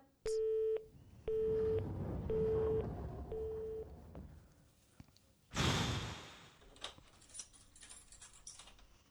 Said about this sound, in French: Oui, d'ailleurs, j'entends l'ascenseur et vu l'heure qu'il est, c'est lui qui arrive.